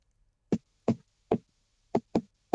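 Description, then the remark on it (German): Six sharp knocks on a hard surface in an uneven rhythm: three evenly spaced raps, a short pause, then three quicker ones close together. Clear, with no voices. “Dann komm, klopf gleich mal, bevor du ihn vergessen hast.”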